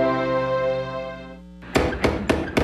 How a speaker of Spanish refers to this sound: ¡Tocan! ¿Quién? ¡La puerta!